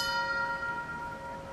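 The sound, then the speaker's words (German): Bells ring out with long, steady metallic tones, several high overtones shimmering together and slowly fading, with no voices present. They are among 59 bells and small bells, from bicycle bells to the New York Stock Exchange bell, recorded in New York by artist Steven Vitiello and played in a museum's sculpture garden. “59 Glocken und Glöcklein hat Steven Vitiello in New York aufgenommen, die nun im Minutentakt den Skulpturengarten des Museums beschallen und zur vollen Stunde jeweils alle zusammen ertönen.”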